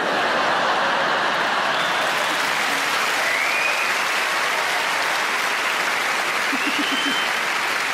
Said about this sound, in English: And from the clapping, I can tell I'm not the only one. We're all members of the Pile High Club.